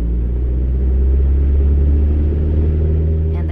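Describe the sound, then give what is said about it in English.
A small airplane's engine gives a loud, steady roar with a deep, rumbling low drone and layered harmonic hum, holding strong throughout as the plane takes off from runway 30 and lifts off the ground. “The engine roars as we lift off the ground.”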